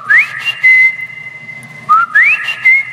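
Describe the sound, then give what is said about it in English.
At Herodion near Jerusalem, a girl whistles loudly twice to call her father to move on, each call a quick upward-sliding note followed by a held higher tone, with a short pause between the two calls and no talking. “I took a little too long, and then I heard a whistle.”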